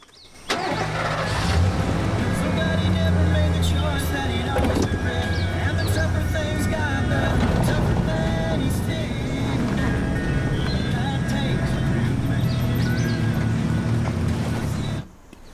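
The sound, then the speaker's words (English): A truck engine rumbles steadily as the vehicle drives off, a low, continuous drone holding at a fairly loud, even level for most of the time before cutting out. “covers up the huntsman's body in the back of the truck, climbs in, and drives away.”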